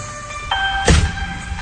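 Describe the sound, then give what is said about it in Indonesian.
A car door swings and shuts with a solid thunk about midway through as a woman gets into the car at her workplace, over a steady hum of an idling vehicle; no one speaks. “Dia masuk ke dalam mobil”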